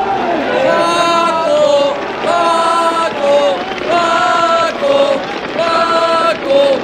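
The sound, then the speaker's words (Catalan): A large crowd in a bullring stands and chants the name of the dog Perro Paco as he slips into the arena, in loud, rhythmic repeated phrases, the voices rising and falling together in steady cycles roughly every second. “Mira, la popularitat d'en Perro Paco fa que cada cop que es cola a l'arena d'una plaça de toros la grada es posi dreta i comenci a corejar el seu nom.”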